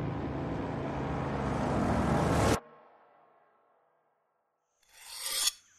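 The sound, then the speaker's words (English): A loud, steady roar cuts off abruptly and fades into quiet, then a single rasping scrape as Lieutenant Yamabe Masao, sitting at a desk in a room of the reconstructed timber buildings of the Penfoe Aerodrome, draws his sword blade across a sharpening stone. “Inside a room in the reconstructed timber buildings of the Penfoe Aerodrome, Lieutenant Yamabe Masao sits at a desk, sharpening the blade of his sword.”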